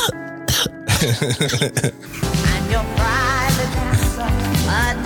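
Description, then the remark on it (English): A few rough, throaty coughs and throat-clearing bursts come in the first two seconds, then give way to steady background music with a singing voice. “Oh, coughing. Oh, coughing ….”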